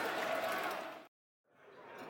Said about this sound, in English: you can hear the crowd baying for a Ryan Leonard goal there